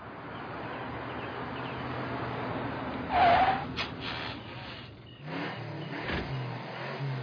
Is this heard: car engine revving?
yes